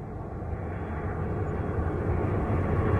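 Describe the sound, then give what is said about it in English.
A steady, deep engine roar of an airplane passing overhead, filling the low end and swelling slightly louder over a few seconds, with no voices. “How many times have I told those clowns at the FAA to either reroute those planes or close that airport altogether?”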